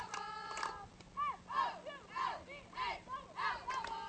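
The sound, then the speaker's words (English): The Cannon McMillan softball team cheers loudly during a game in rhythmic, chant-like bursts of many voices, rising and falling several times. “You can hear the Cannon McMillan team to our right cheering nice and loud.”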